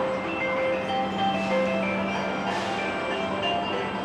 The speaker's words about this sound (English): Down here on the ground, our shuttle rolled past little four-wheeled vehicles that moved on their own, carrying cargo while playing music like ice cream trucks.